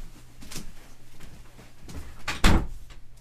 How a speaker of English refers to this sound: Oh, and I'll close the door and that'll help too.